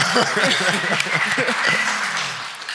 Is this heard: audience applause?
yes